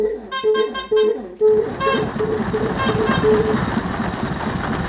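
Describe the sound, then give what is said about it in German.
An old automobile sounds its horn in a quick series of bright toots, then a longer blast, over the steady rattling chug of its engine, which keeps running throughout. “Hören Sie es? Das erste Automobil.”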